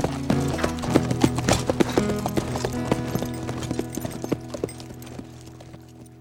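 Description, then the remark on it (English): A horse's hooves clip-clop in a steady, unhurried rhythm as it is ridden east, sharp knocks over a low sustained musical drone, gradually thinning and fading toward the end. “He waited until they were out of sight and then fetched his horse. Wearily, climbed into the saddle, rode east.”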